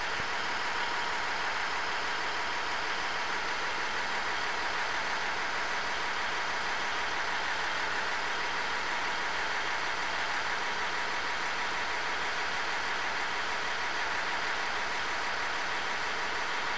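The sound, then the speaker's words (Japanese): The DMF14HZA engine of a JR KiHa 110 diesel railcar runs steadily at high revs, recorded at Echigo-Kawaguchi Station on the Iiyama Line, Japan; a dense continuous drone with a broad whirring, roaring texture, loud, with no voices and no pauses throughout. “性能いいよって感じしますからね、DMF14HZA というエンジンらしいです。キハ110、これはあの飯山線の越後川口駅で撮ったものでございました。”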